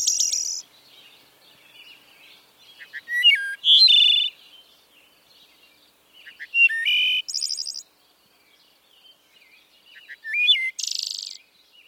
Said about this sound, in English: I came to learn this is the wood thrush. And then I remembered, oh, this was Thoreau's favorite bird song.